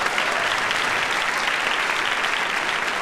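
The live audience of an Intelligence Squared US debate on the motion "Amazon is the reader's friend" applauds steadily, a dense, even wash of many hands clapping at a constant loudness for the whole stretch, with no voices standing out.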